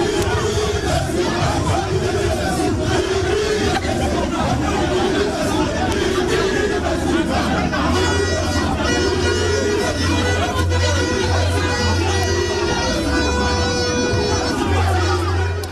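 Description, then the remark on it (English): A large, agitated crowd of angry NDC supporters protesting at the Electoral Commission headquarters in Kumasi, the Asante regional capital, roars continuously, many voices shouting and clamoring over one another at high, steady loudness, with bursts of louder yelling and sustained tonal shouts later on. “Sounds of angry NDC supporters at the Electoral Commission headquarters in the Asante Regional Capital, Kumasi, where clash with the police left shattered glasses at EC offices.”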